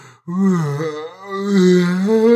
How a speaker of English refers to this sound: But these yawns are outrageous.